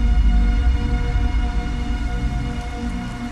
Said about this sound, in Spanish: Caía una llovizna helada y pegadiza que le hizo estremecer cuando salía de su bar.